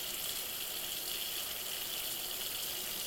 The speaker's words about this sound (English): And bringing it under the water, take a moment to wash with soap or sponge, or just give it a rinse. And pause for just a second while you're here, right? Notice how water runs around or through or over it.